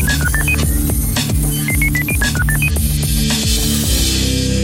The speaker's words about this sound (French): Nous recomposons donc le numéro, car il est bien clair que dans cette radio, toujours, tout se fait deux fois, on est bien d'accord. Bien sûr. Attention, donc, la régie compose le numéro.